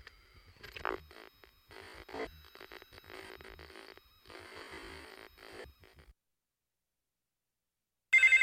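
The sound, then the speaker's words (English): A telephone rings in several long, buzzing bursts separated by short gaps, then falls silent for a couple of seconds before a sudden loud burst of sound cuts in at the end. “My phone doesn't seem to be working.”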